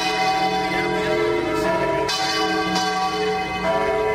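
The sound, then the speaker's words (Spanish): Church bells of the Giralda tower in Seville, Spain, peal continuously at 8 in the morning, several bells overlapping in a loud, ringing clamor with rich sustained overtones and fresh strikes every half second or so, with no voices. “Así repicaban a las 8 de la mañana las campanas de la Giralda de Sevilla anunciando este día tan deseado.”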